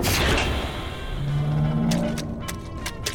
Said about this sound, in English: Opening outer hatch. Chamber full. Two otters inside the chamber. Releasing water. Hang on to the handles in there, otters. Opening chamber door.